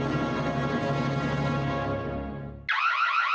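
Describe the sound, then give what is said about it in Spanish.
A loud electronic security alarm starts abruptly after a fading burst of orchestral music, blaring with a rapid, warbling siren-like tone. “Todas las alarmas suenan igual, pero no protegen igual.”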